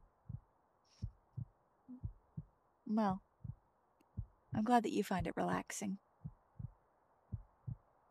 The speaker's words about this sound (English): My heartbeat?